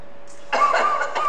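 A short electronic cough sound effect bursts in after a faint tone, a quick pair of tinny, slightly buzzy coughs played fairly loud from a toy speaker.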